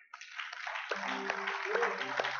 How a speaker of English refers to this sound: just to give the Lord a hand clap of praise.